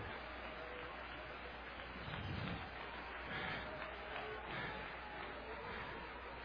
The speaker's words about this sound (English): Somebody clap your hands for the Lord.